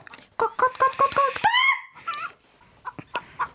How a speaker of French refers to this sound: La poule, très énervée, appelle toute sa bande.